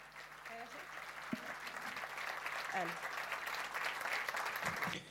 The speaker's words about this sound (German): Gibt eine Runde Applaus.